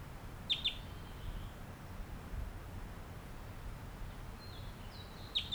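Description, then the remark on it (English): A wild bird sings in short, high, bright notes: a quick pair early on, then a few thin whistles and chirps near the end, over a steady low rumbling background with no talking. “That was just recorded, gave some songs and flew nearby.”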